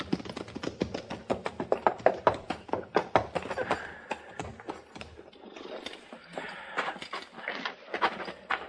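Horses' hooves clip-clop as riders bring their horses into a barn, a steady, uneven patter of sharp knocks, loudest early on, then continuing more softly with faint shuffling and a low murmur of voices.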